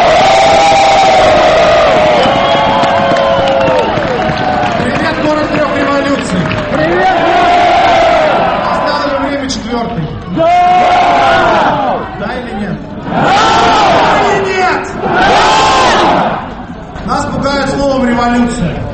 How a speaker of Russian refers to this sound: Кульминацией стало выступление Алексея Навального, встреченного бурными овациями.